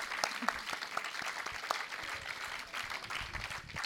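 An audience applauds a reading steadily for a few seconds, a dense wash of many hands clapping at an even, fairly loud level with sharper individual claps popping out, and no one speaking.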